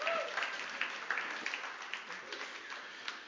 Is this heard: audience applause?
yes